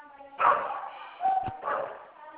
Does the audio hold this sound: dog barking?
yes